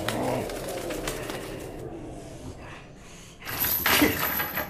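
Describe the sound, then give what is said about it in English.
A pigeon called Prison Pigeon coos low and throaty at the start, then its wings flutter and scuffle in short bursts as it tries to do something, moderately loud, with no voices. “Look, there's Prison Pigeon. He's trying to do something.”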